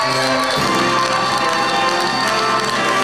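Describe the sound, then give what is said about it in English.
A crowd at a live show in Vegas cheers and applauds loudly and steadily, with dense clapping and bright whoops running throughout, swelling just after the start and holding strong with no talking. “Round of applause. Get it going, everybody in here.”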